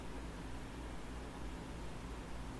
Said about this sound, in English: The hum of a distant air conditioning unit.